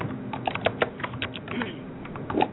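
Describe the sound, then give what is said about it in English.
Rapid, uneven clicks of fingers typing on a computer keyboard, with bursts of keystrokes over a faint background murmur. “You can keep that typing down.”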